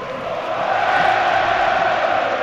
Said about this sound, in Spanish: Y devuelve el cariño el Cholo Simeone, aplaudiendo a la afición del Atlético de Madrid tras estos cánticos.